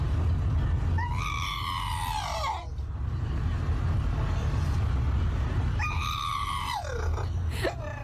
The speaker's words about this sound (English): No, and there's nothing wrong with him. This is just the sound that Mo, the Stratfordshire Bull Terrier, better known as a pit bull, makes sometimes, according to his owner,